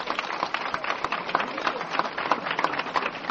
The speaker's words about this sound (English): Fantastic applause you get. Very nice.